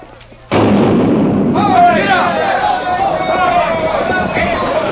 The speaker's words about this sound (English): They're ready to fire the cannon. Clear the track!